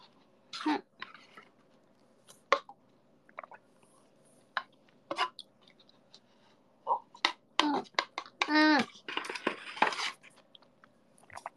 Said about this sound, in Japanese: 喉鳴った。そう、いつものマイクだとさ、なんかちっちゃすぎる音を入らないようにしてるから、ちょっともぐもぐしてもその咀嚼音はなかなか入らないんですよ、あの ASMR 以外は。からさ、そんなに入んないかと思ったら、飲み込む音まで聞こえて、なんや。